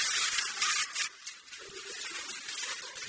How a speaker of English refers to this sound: And then we take that piece of paper off.